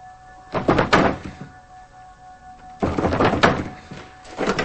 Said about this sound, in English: She locks the door. He pulls on the doorknob.